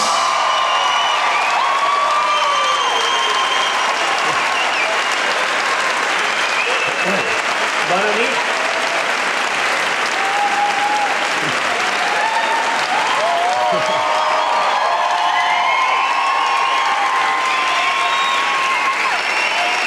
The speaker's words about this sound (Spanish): Muchas gracias por venir, esperamos que lo paséis genial y os pedimos un fuerte aplauso para José Luis Sastre y Miguel Maldonado.